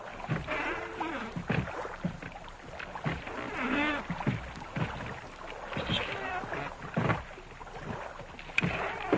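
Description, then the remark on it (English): A small boat being pulled in closer moves through water, with steady sloshing and splashing throughout and occasional hollow knocks, the sound fairly loud. “Pull in closer. Get the boat closer.”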